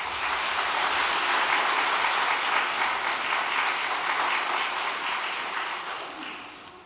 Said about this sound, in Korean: 그럼 단상에 모실 때 따뜻한 박수 부탁드리겠습니다.